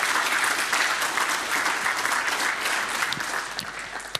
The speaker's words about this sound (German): Ich danke auch für den interessanten Vortrag und ich bitte nochmal um eine Runde Applaus. Danke.